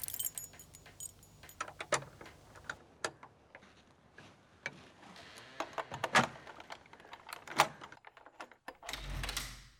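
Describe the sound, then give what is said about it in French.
A small key jangles and clicks in a lock, with scattered metallic taps, ending in a louder rattle as the door of a small room is pulled open, with no voices. “Elle prit donc la petite clé et ouvrit en tremblant la porte du cabinet.”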